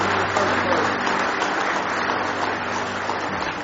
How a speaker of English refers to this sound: Does it mean the world to you? Give the Lord one more hand clap of praise this morning.